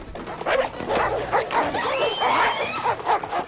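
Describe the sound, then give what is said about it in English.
Several dogs bark and yip excitedly in quick, overlapping bursts, loud, with some whimpering mixed in throughout. “Why do we have dogs?”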